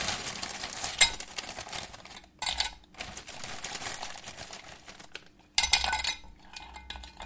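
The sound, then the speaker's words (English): Ice cubes drop into a glass of lemonade in a few irregular bursts, bright clinks and clatters rattling against the glass, with quiet fizzing between them and no voices. “Right, and then what I have here is some ice, so I'm going to drop in some ice cubes.”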